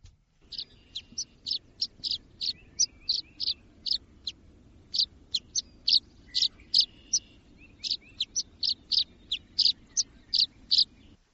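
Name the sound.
tree swallow calls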